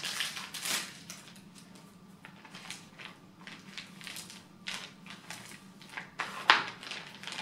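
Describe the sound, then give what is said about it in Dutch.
Crinkly rustling of a resealable plastic bag, holding a blister pack with a blood collection tube, being handled and sealed with tape: a series of irregular crackling bursts with one sharper snap near the end, and no voices. “Plaats de verpakking terug in het afsluitbare zakje.”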